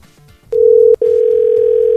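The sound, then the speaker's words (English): A loud, steady electronic telephone tone sounds over the line as a call is placed to a liquor store, after a brief quiet moment, broken by one short gap before continuing unbroken. No one speaks. “So we're gonna call Ball Liquors instead.”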